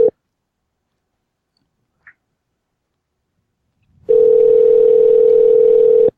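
A telephone ringing tone: a steady, mid-pitched electronic hum holds for about two seconds after a short blip of the same tone and a faint click, with no voices.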